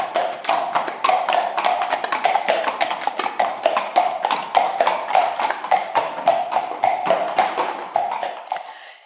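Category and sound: animal, horse hooves clip-clopping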